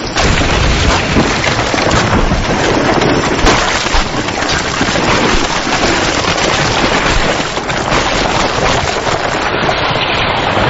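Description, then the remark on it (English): Steam bursts violently where lava, burning at over 1,000 degrees Celsius, meets seawater cooled by cold currents from the deep: a loud, unbroken hissing roar broken by sharp crackles and thumps that continue without letup for the whole stretch, with no voices. “Cold currents from the deep send its temperature plummeting, releasing steam with explosive consequences.”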